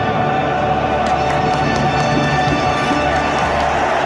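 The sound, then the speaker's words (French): A large crowd at Real Madrid's Santiago Bernabéu stadium roars and cheers in a steady, dense wall of noise, with scattered claps and whistles rising out of it for the full four seconds. “Et l'acclamation du stade Santiago Bernabéu.”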